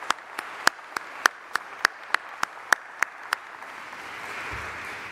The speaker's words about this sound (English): I think you deserve a round of applause for what you've done in this past year.